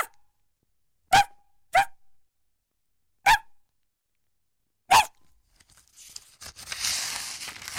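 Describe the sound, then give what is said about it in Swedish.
A person in a crowded train station imitates a dog's bark to scare people away: four short, sharp, loud yaps with uneven gaps. Rustling and crinkling noise follows. “Och jag gav till ett ljud som när en hund skäller för att skrämma bort dem.”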